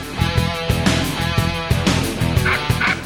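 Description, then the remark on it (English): A phone alert made of dog-bark sounds, short repeated yips and woofs layered over a steady rhythmic musical backing, fairly loud, with no talking. “I wish. It was just my phone, sorry.”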